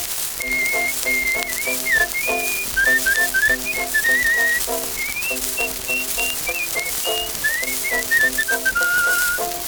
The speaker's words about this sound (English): Oh, I never heard him talk to anybody in my life, but he's happy when he whistles his tune.